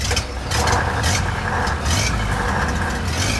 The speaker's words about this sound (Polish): Niedawno do naszej ekipy dołączył wózek widłowy. Jego pomoc będzie dzisiaj nieoceniona.